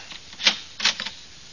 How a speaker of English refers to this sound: Uh-oh. The door done closed. It's locked.